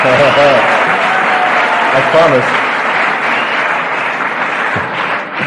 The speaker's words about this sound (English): You know, I promise I'd never use this line again, but you know, when you people applaud this shit,